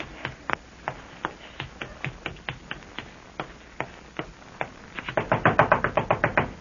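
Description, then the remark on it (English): Knocking on a bedroom door: sharp raps arrive unevenly at first, then build into a quick, insistent flurry of knocks near the end. No voices are heard. “Who is it? It's me, Larry. Open the door or I'll kick it down.”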